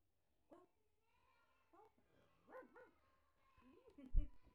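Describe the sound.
A young child imitates a dog barking with several short, spaced 'woof' sounds, quiet at first and ending in a louder bark.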